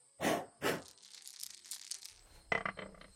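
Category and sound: household object, dice being rolled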